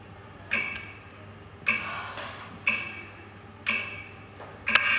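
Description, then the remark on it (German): An old clock on a mantelpiece in a small house ticks slowly and steadily, about once a second, each tick a crisp, slightly ringing click over a faint low hum, with nothing else to be heard. “In Omas kleinem Haus war nichts zu hören als das Ticken der alten Rasenuhr auf dem Kaminsims.”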